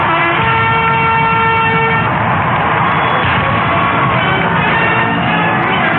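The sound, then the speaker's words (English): A brass band plays Hail to the Chief, a ceremonial march, loud and continuous, with sustained horn notes over a dense, busy backdrop, alongside a 21-gun salute at Barack Obama's presidential inauguration on the western steps of the US Capitol. No talking. “I hear the 21-gun salute. I hear hail to the chief.”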